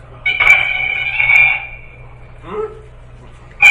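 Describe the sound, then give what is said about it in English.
The roar of King Ghidorah from the film Monster Zero, a monster cry made from processed organ keys. A loud, high, warbling metallic trill lasts over a second, followed by a shorter chirping burst and another shriek starting at the end, over a low steady hum. “I believe those were organ keys. Yes. Affected.”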